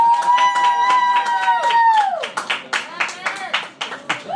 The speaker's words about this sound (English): And the crowd goes wild. How long have you been waiting for that? I think we've all been waiting for that. They're pretty excited.